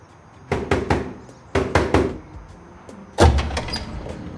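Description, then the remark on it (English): Three rounds of firm knocking by a woman on the steel door of a DVD warehouse, each a quick cluster of three or four loud raps with a slight metallic ring, separated by short pauses. “She pulls a red envelope out of her purse and walks up to the steel door of the warehouse.”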